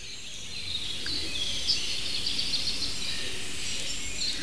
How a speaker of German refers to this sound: Also, ihr habt viele Tauben gehört, die Hohltaube. Und die Ringeltaube. Natürlich auch eine Singdrossel und Rotkehlchen und sogar ein kleines zartes Sommergoldhähnchen war mittendrin. Kleiber hat kurz angeschlagen. Die ein oder andere Meise.